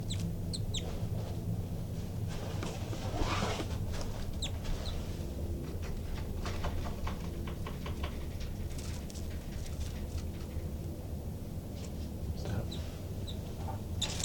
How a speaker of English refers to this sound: I disturbed the birds quite a bit, and the two new babies popped out of the nest, and they're climbing the screen now.